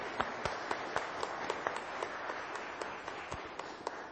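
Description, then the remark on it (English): An audience applauds steadily for a handbell choir at the end of its season, many hands clapping together in a dense, even wash with a few sharper claps standing out, holding at a moderate level with no voices throughout. “And as I understand, this was the end of the season for the Bells, so let's give them a better round of applause.”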